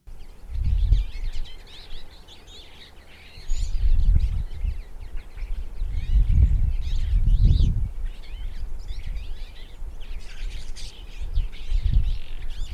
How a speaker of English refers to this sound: I agree, the Twite is the bird.